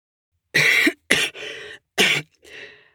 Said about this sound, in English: I'd love to, but it's hard to run with this cough. You don't have a cold, do you? No, it's these cigarettes. They make me short of breath.